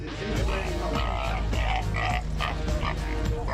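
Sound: pig grunting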